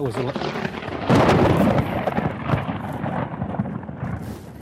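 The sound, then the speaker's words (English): A sudden, very close thunder crack from a nearby lightning strike in Haiti erupts after a brief voice, then rolls into a loud, sustained crackling rumble that slowly fades over several seconds. “That hit me. Lightning bolt. Lightning just zipped me.”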